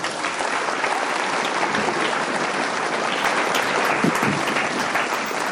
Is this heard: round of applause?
yes